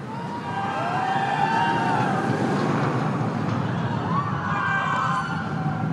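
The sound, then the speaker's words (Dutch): Roller coaster train number 1 roars steadily along its track, a loud, continuous rumbling rush with whining tones that rise and fall as it passes, filling the whole stretch without any talking. “De baan klinkt wel goed, hè? De baan klinkt lekker donker, lekker bijna robuust.”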